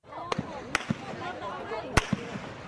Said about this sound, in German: Es waren Schüsse, die nicht in die Luft gehen sollten. Sie trafen direkt in die Menge. Die Militärpolizei in Kambodscha ist mit Schnellfeuergewehren ausgerüstet. Dutzende Geschosshülsen lagen am Ende auf den Straßen.